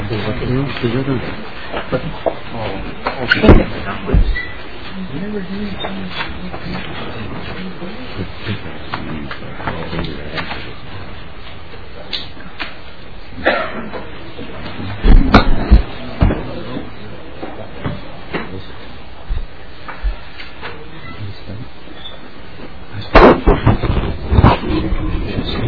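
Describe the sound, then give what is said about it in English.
Papers rustle and shuffle in short, scattered bursts as spreadsheet handouts reviewing the governor's budget are passed out to members at a meeting, with a few louder crinkles near the start, middle and end over faint background murmur. “Madam Chair, members, a spreadsheet is being passed out.”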